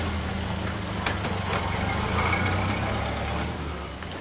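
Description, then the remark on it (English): A car engine rumbles steadily with a low droning hum, swelling briefly as it revs and pulls away as a woman drives off in the car, then easing slightly toward the end. No one speaks. “She's taking the car.”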